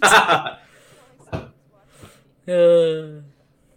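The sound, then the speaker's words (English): A single steady, buzzy telephone ring lasting under a second, loud, following a burst of indistinct voice and a couple of brief knocks. “Fine, I'll ring that phone.”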